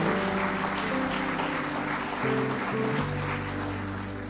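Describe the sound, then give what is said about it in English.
An audience claps steadily in praise of the Lord, a dense, continuous wash of many hands for several seconds, with sustained organ-like tones held underneath and no talking. “Give Him one more good hand clap of praise tonight if you love Him.”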